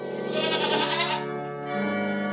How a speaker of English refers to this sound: But it turns out, you don't have to wait till January 6th to hear goats singing to Christmas carols. Yep, those are goats singing along to O Come All Ye Faithful.